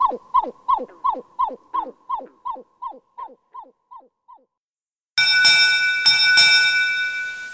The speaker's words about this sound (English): Thanks to Lang Elliott for permission to use the grebe sounds from the Stokes Field Guide to Bird Songs, and we let the pied-billed grebe have the last call.